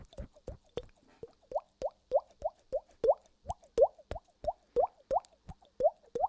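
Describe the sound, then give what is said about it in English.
A rapid, steady series of hollow, wet plops made by tapping on a cheek, mimicking falling raindrops, each pop with a rising pitch, about three per second, with no talking. “But I could make like raindrop sounds on my cheek for the next 10 minutes.”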